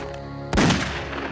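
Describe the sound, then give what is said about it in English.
A single loud gunshot cracks out after a low, steady hum, its sharp blast lingering and slowly fading over the following second: a shot fired by officer Ibrahim Abisalov beside a stopped car, striking Sidney in the back. No one speaks. “Abisalov fired a single shot that struck Sidney in the back.”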